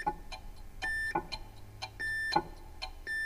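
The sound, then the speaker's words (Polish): Repeated steady electronic beep tones of a radio time signal, keyed with a Morse key in a regular rhythm matched to a chronometer's ticking. Each short tone pulses at near-even intervals alongside faint clicks. The sound is clear, with no talking. “I cały eksperyment polega na tym, aby do tego cygania dostosować rytm nadawania sygnału radiowego za pomocą klucza alfabetu Morsa.”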